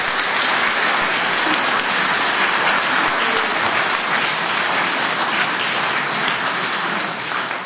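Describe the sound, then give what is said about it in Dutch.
Sustained, dense applause from a sizable crowd, a steady roar of many hands clapping at once, loud and even throughout with no voices standing out. “En een extra warm applaus voor Kathleen”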